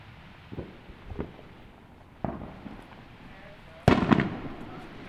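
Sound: fireworks exploding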